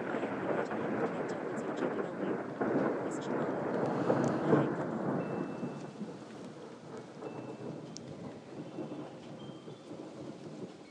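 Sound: thunder rumbling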